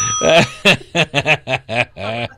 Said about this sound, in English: Okay, that gets a ding.